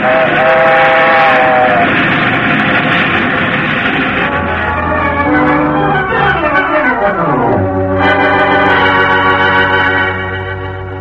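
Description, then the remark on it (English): A fast train thunders by with a loud, sustained roar, its whistle blaring and sliding down in pitch as it rushes past, then the rumble carries on and begins to fade. “Fast train is coming.”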